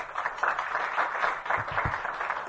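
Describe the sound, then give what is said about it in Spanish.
A crowd applauds steadily for a couple of seconds at the opening of a meeting with authors, welcoming a town councillor: many hands clapping in a dense, even patter at moderate volume, with no voices over it. “Un aplauso.”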